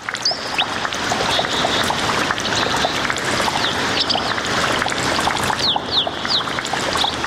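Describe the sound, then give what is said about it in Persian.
Steady rushing and splashing of flowing water at a spring fills the scene continuously, with faint bird chirps sprinkled over the top. No one speaks. “در این برنامه با شما یک جا به طرف گدر یا چشمه ساران می رویم.”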